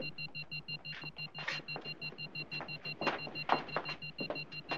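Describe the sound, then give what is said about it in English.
A shoe phone rings with a rapid, continuous high-pitched electronic trill pulsing in a steady rhythm, while irregular rustling and knocking noises break over it. “Wait a minute, his shoe phone.”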